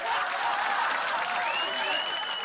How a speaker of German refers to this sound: Das Publikum klatschte, jubelte, lachte.